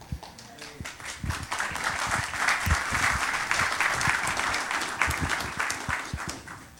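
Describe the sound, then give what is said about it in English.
A crowd applauds steadily, with dense overlapping claps that swell after the first second and hold at a fairly loud, even level before easing slightly toward the end. “Are you applauding”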